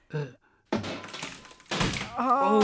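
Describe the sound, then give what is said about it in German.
A hammer, used in place of drumsticks, bangs on a wooden cupboard in a studio in two heavy, hollow thunks about a second apart, the second ringing on; a voice is heard briefly before the first blow and after the second. “Ich brauche noch Trommelstöcke. Hier der Hammer.”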